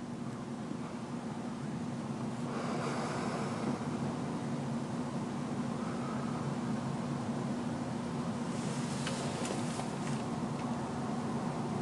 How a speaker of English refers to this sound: Sounds like a fire truck. Just hear the rumble of the diesel engine.